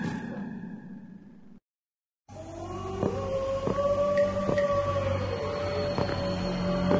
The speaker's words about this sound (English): Could there be wolves in there? Wolf dogs. Half wolf, half husky.